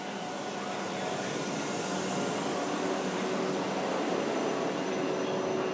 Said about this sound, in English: Right, here comes my train now.